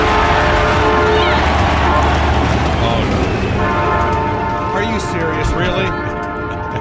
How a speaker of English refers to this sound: Starting off with the train, are we? Oh, that's fantastic. Oh, you know what? Hold on. Oh, Jesus. The conductor is still there. Still passing by. He's throwing that horn out there.